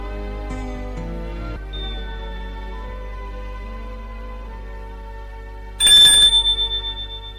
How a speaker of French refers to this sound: Le soir, il sonne à sa porte. Elle lui a ouvert.